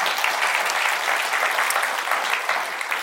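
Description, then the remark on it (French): An audience applauds together at the pastor's request during a morning service, a dense, steady wash of many hands clapping that holds at an even, loud level for the full three seconds with no voices rising above it. “Est-ce que vous pouvez vous donner une bonne main d'applaudissements ce matin?”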